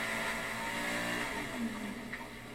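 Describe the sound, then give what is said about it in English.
A jet ski engine revs loudly and steadily, a dense mechanical roar with shifting pitch that rises briefly near the end. No voices are heard. “I'm running a jet ski and a smoking hot naked chick at the same time.”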